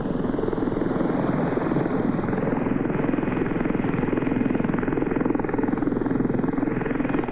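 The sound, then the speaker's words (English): A Sea King helicopter hovers while lowering its sonar dipper into the sea, with a steady, loud rotor drone and rapid rhythmic blade chop, a continuous low roar holding constant throughout with no voices. “A Sea King lowers its sonar dipper into the depth of the sea.”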